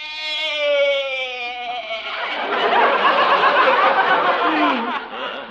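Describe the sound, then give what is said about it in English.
A loud bleat from a goat named Arthur: a drawn-out wavering cry that breaks into a harsh, raspy bleat lasting several seconds, with no talking. “Yeah, you sure bleated a bib full, Arthur.”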